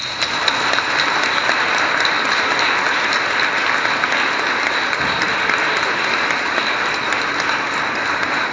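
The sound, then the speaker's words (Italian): An audience at a religious celebration applauds steadily to welcome someone, a dense wash of clapping at an even level for several seconds, with no voices over it. “E lo accogliamo con un applauso.”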